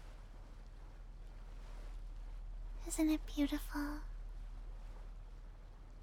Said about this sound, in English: Do you hear that? The relaxing sounds of the water. The humming of the cruise ship.